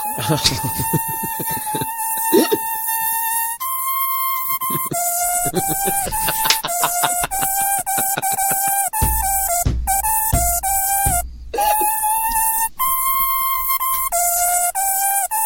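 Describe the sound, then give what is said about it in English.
A thin, buzzing mosquito whine carries the stately melody of the Olympic theme, its pitch stepping up and down through held notes, with a few brief breaks and one short gap in the middle. “You know, it's early on a Monday when a mosquito singing the Olympic theme it's pretty good.”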